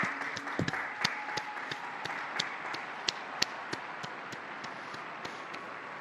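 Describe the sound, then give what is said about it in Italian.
A large crowd applauds steadily for several seconds in honour of a newly beatified person, a dense wash of overlapping claps with sharper individual hand claps standing out at irregular moments, fairly even in loudness throughout. “Un applauso al nuovo beato.”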